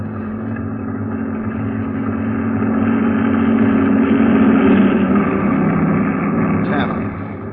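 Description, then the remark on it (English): The engine of a heavy truck, the tenth in a convoy, rumbles past, its deep steady drone swelling louder through the middle and easing off slightly at the end, with no voices over it. “Here comes number 10.”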